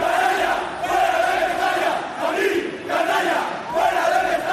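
stadium crowd chanting

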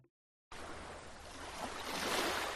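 sea waves

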